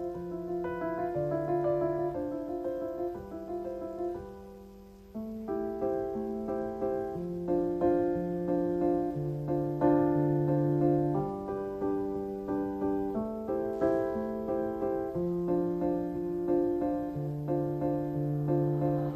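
A French pop love song duet plays steadily and fairly loud, a melodic passage of sustained, stepping tones with rich harmonics; no talking over it.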